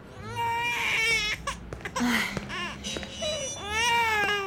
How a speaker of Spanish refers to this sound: En el programa de hoy conversaremos sobre por qué es importante atender y calmar a nuestros bebés cuando lloran.